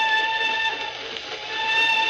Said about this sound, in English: I say, the old whistle do sound eerie tonight, don't she? Yes. I always says there's nothing so lonely as a train whistle going along across country after everyone else is safe in bed.